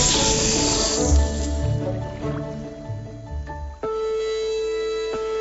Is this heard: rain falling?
no